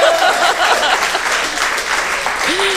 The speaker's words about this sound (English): Applause will get you everywhere.